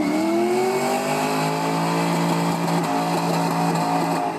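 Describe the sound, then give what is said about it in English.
A car engine revs loudly, its harmonics sweeping upward as it accelerates hard and speeds off, the roar sustained throughout with no talking. “I mean, what's the worst that can happen when a paranoid, delusional, alcoholic gun nut puts the project master tapes into the boot of his car and drunkenly speeds away?”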